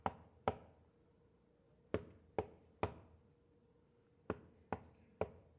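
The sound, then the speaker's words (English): A man knocking firmly on a wooden door, alone, in groups: two raps, a pause, then three, another pause, and three more, each ringing briefly. “The more that this man stood at the door and knocked.”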